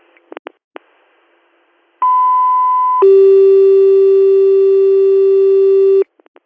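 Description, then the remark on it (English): Two-tone dispatch paging for ambulance unit ALS 150, sent to a 65-year-old woman having difficulty breathing in the Town of Canisteo: a loud steady high tone for about a second, then a lower steady tone holding for roughly three seconds, framed by a few faint radio clicks. “Could you tone them out to head this way, but they'll have to take the turnpike end, obviously.”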